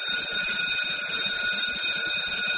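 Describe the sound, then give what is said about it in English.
An alarm clock rings nonstop in the morning with a shrill, steady electronic tone, loud, filling the whole stretch with no voices or other sounds around it. “The school day actually starts when the alarm rings in the morning, because the child's day is actually consumed the minute they wake up, because they've got to get ready for school.”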